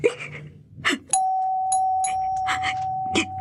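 A doorbell rings with a sustained electric buzz that holds one steady tone for about two seconds, while brief bursts of voices and movement sound over and around it.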